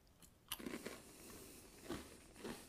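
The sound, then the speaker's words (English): A crunchy chocolate snack with a white chocolate cream is bitten with a sharp crack, then chewed in a few crisp, crackly bursts, with no talking. “Tastes really nice. Not too sweet. Nice and crunchy.”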